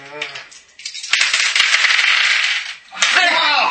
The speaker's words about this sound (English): Oh! you guys can make 2 stress dice rolls each.